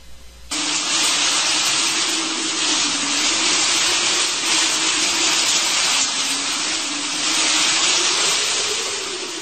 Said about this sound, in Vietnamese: Ông vừa nói thì mưa ào tới, Xuân Sơn hết đoại đi.